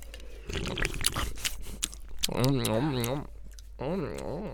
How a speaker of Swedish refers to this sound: Sitter du och smaskar så mycket för? Det är mitt signum i den här podden. Ja. Det kanske borde byta namn till Chips och Ölpodden ändå. Chips, men vi säger ju det i podden. Ja. Chips och Bärspodden. Ja. Chips och Ölpodden. Mm. Du kan smaska och jobba.